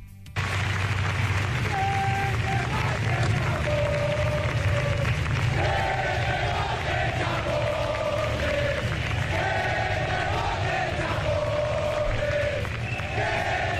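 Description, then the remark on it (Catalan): At the Armed Forces Day parade in Madrid, a large crowd roars steadily and loudly at acting president Pedro Sánchez as he greets the monarchs and military authorities, with shrill wavering whistles rising above the din and scattered shouts throughout, never letting up after a brief quiet start. “Es van sentir xiulets, com ho escoltàvem, i crits com que et voti Chapote, en referència al militant basc i membre d'ETA, i crítiques també per les negociacions del PSOE amb Bildu, Esquerra i Junts.”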